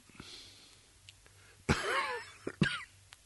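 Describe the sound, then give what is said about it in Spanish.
A raspy cough from a speaker still getting over a cough rattles out with a wheezy, drawn-out tail, then two short sharper coughs follow in quick succession against a quiet background, with no talking. “Como verán, todavía sigo con algún resto de tos.”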